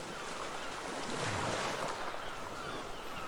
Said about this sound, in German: Er saß im warmen Sand und hörte dem fernen Rauschen der Wellen zu, wie sie brechen, fallen und wieder aufstehen, um zu ihrem ewigen Tanz zurückzukehren.